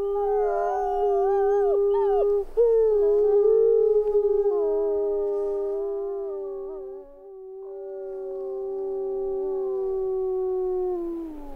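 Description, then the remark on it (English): Several Rocky Mountain wolves in Yellowstone National Park howl together in a sustained, overlapping chorus, long wavering tones rising and falling for about eleven seconds, fairly loud with no other sounds. “scary, full of mystery, and an iconic soundtrack of wild places, including Yellowstone National Park, where these Rocky Mountain wolves were recorded.”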